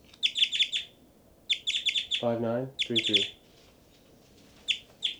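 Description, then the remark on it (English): Two birds trade calls: quick bursts of high, bright chirps repeat in short clusters, and a lower, harsher two-part call answers between them, with short pauses between exchanges. “both birds, 5-9, 3-3, 5-9, 5-9, 5-9, 5-9, 3-3 responding, 5-9, 5-9 and 3-3.”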